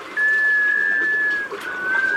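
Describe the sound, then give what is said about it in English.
A sea duck, a scoter, gives a musical, wailing call: a long, steady, mid-pitched tone lasting over a second, then a short pause before a second wail begins. There is no talking. “An unmistakable clue to their presence? That mysterious musical wail.”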